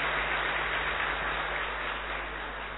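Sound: thunderous applause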